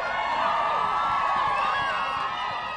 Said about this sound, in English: She met the cheering crowds with her typical good nature.